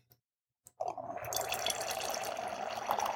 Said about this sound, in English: I'm just going to pour a little bit into the glass for starters.